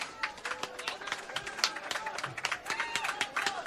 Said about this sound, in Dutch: Heeft ze nog een daverend applaus?